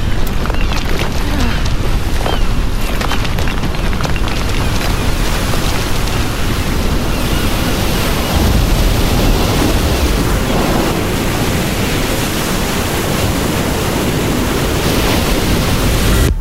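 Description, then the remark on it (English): A heavy, continuous roar of crashing ocean water and wind as a rogue wave crashes over a boat, loud, churning steadily for the whole stretch with no voices. “Rogue wave.”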